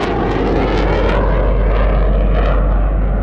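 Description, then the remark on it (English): An F-8U Crusader military jet flies overhead, coming up from the south just before 2 a.m. during a drill, a loud, steady, rushing engine noise with a hissy high edge that holds at full strength for the whole few seconds, with no voices. “It would be an F-8U Crusader bomber coming up from the south.”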